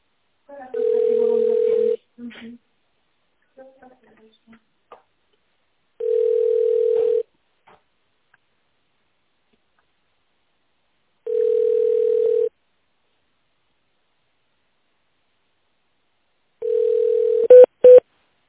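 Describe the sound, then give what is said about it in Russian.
A telephone ringback tone while waiting for an operator after an automated phone menu: four steady, mid-pitched one-second beeps spaced about five seconds apart, with a brief recorded voice at the start and a click as someone picks up at the end. “Пожалуйста, дождитесь ответа оператора или наберите добавочный номер сотрудника.”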